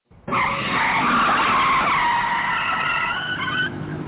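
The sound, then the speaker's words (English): A sound effect of a long, loud tire screech of a car skidding under hard braking, a sustained high squeal lasting several seconds before cutting off abruptly. “Pump the brakes.”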